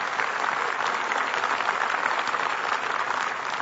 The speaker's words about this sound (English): And there are many other sponsors that you can see out there in the hallway. So let's give our sponsors a round of applause for making this possible.